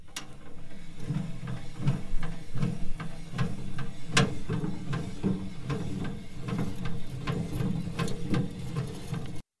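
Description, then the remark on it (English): A barbecue grill being cranked down and back up, a steady run of metallic clicks and rattles over a low mechanical rumble, lasting several seconds with no voices. “It is the lowering and raising of my barbecue grill.”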